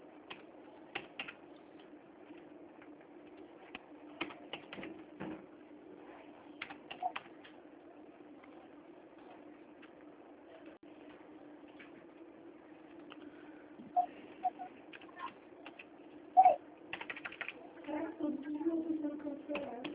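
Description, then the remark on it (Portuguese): Rapid, irregular clicking of keys on a computer keyboard as a contract is typed. The typing is fairly quiet, with bursts of faster typing over a low steady background hum. “Mais um momento que eu já estou digitando já o contrato, tá,”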